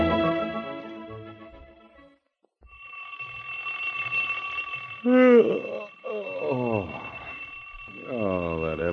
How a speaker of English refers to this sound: I just turned off the alarm.